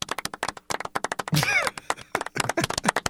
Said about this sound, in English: We do have the audio of the crowd last night at the Staples Center.